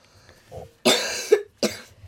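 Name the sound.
child coughing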